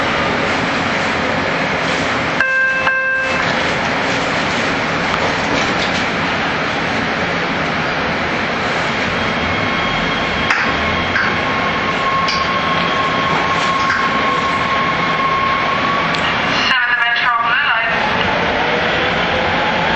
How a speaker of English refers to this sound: So this next stop is the stop that I will be getting off at. So when the train stops, we'll exit and go upstairs.